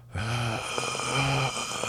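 Two long, heavy breaths rasp into the microphone, each drawn out with a low, throaty, almost groaning tone and a short pause between them. No one speaks.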